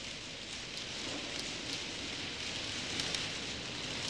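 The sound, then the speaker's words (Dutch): Many typewriters clatter at once as typists work at 100 and 130 strokes per minute, their keystrokes blending into a dense, steady crackle like rain, with a few sharper taps standing out. The level stays even throughout, and no one speaks. “Anderen zitten al echt lekker machine te schrijven en verbergen hun heimwee naar de vrije tenen onder de tafel.”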